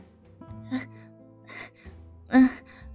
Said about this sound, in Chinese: 没什么啦，刚刚我在做运动，所以有些喘气。